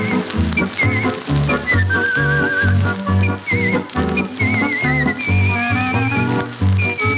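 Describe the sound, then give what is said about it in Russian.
A person performs artistic whistling of a melody with warbling vibrato, the bright tune sliding and trilling above a full instrumental accompaniment with steady bass and chords, loud throughout. “Подробней о художественном свисте минут через 20.”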